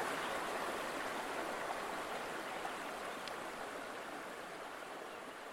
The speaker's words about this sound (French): Ça, c'est la rivière Waho. J'aurais dû checker le nom de la rivière. Je pense que c'est la rivière Waho.